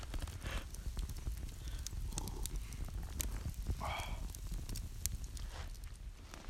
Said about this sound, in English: Listen to the campfire.